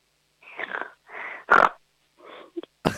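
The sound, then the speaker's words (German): A child's voice makes a string of short, breathy grunting and snorting bursts imitating a piglet, about six uneven puffs with one louder, harsher snort in the middle and no words spoken. “Dann hätte ich jetzt gerne, dass du mal grunzt wie ein kleines Schweinchen.”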